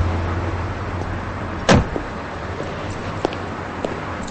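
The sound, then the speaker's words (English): A car door shuts once with a solid thump over a steady low engine hum, followed by a few faint clicks and rustles as someone steps out of the car in a motel parking lot. “They pull into a motel parking lot, and Davis gets out of the car. Liz unfastens her seatbelt.”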